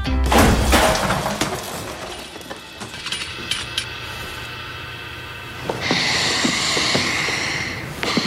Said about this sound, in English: Why do you suppose I just hurled a chair at your head